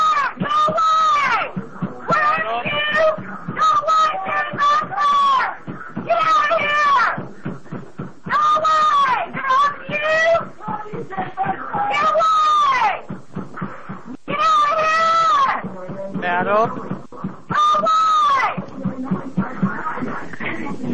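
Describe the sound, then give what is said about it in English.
A woman screams loudly in a long series of drawn-out, wailing bursts, roughly one every two seconds, with brief gasping pauses between them. “You need to scream, ma'am, quickly.”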